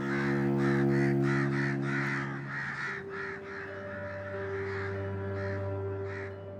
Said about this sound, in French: La corneille, perchée sur le pignon de la maison, fit entendre ses cris rauques.